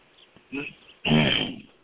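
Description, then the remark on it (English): A caller on a radio call-in show clears their throat twice: a brief, soft rasp followed by a longer, louder, gravelly rumble. The sound is muffled and narrow, like it's coming over a phone line, with no speech. “I had to clear my throat because you didn't say my area code.”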